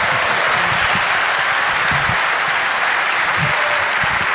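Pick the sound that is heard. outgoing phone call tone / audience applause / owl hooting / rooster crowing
audience applause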